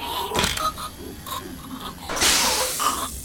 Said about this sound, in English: Escape pod doors closing. Please stand clear.